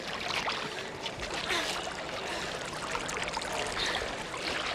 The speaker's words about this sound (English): We have poured the water a third time, Master.